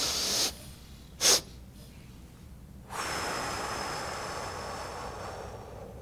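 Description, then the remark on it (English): A person demonstrates a breathing technique: two quick inhales through the nose, a short one followed by a sharp second sniff, then a long steady exhale that carries on for several seconds, fairly quiet with no talking. “You breathe in through your nose, and then you take a second sniff, and then a long exhale.”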